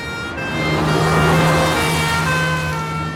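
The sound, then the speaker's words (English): An ambulance siren wails loudly over rumbling traffic, its steady tones sliding in pitch as the ambulance races by. “nervously smokes a cigarette as an ambulance races by.”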